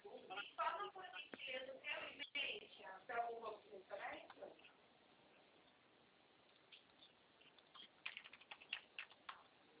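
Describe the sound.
Quick, irregular clicks of keyboard typing as a numeric code is entered, fairly light, first under a man's voice and then in a short burst on their own near the end.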